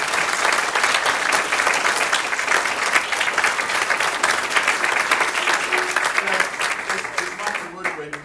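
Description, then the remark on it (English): A crowd of people claps steadily for several seconds, a dense, even wash of applause that begins to thin near the end as a few voices emerge. “So big round of applause for everyone.”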